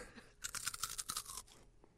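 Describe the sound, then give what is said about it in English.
Loud crunching of a crisp Flaming Hot chip being bitten and chewed, a dense burst of brittle cracks lasting about a second before tapering into softer chewing. “That was such a good crunch.”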